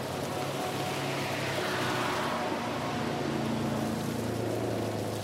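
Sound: car engine running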